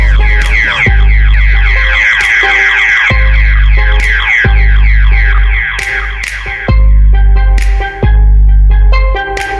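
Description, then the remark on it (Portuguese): A loud, wailing car alarm with sweeping electronic tones repeats over a booming, pulsing bass beat, steady for the whole stretch, with no voices. “Os graves vai bater, o alarme vai disparar.”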